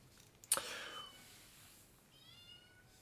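A sharp knock is followed by a cat's drawn-out meow and a second, thinner meow trailing off near the end. Both are fairly quiet, with no voices present.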